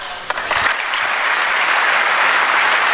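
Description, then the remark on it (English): A large audience claps steadily after a speech on an immigration plan, a dense, loud wash of applause holding at full strength from start to finish without any speech over it. “And then they applauded at length that.”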